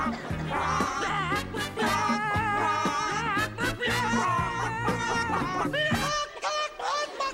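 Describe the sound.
Two lead voices imitate chickens, clucking and squawking out a song in a steady rhythm over a bouncy orchestrated backing that goes up a key with each verse, the bawking growing shrill and screechy toward the end.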